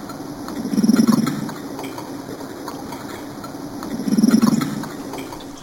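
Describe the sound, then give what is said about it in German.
Two low, grunting bursts from a carp underwater as it chatters with another carp, each swelling and fading over about a second, separated by a few seconds of steady murky hiss and faint clicks. “Er ist einfach ein Gesprächiger, schwätzt gerade mit einem anderen Karpfen.”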